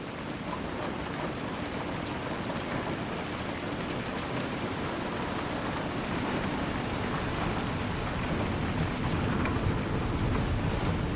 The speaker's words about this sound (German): Die rhythmischen Geräusche des Regens, der gegen die Fensterscheiben prasselt